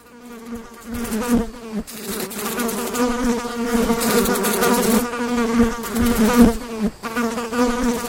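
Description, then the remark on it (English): Dense, droning buzz of many flies, steady, with wavering pitch and brief dips as individual insects move about; no voices. “That is indeed the sound of flies.”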